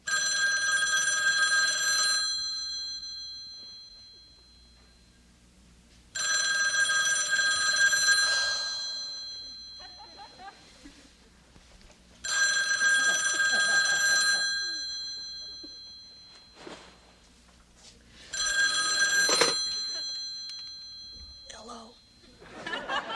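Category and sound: household object, telephone ringing unanswered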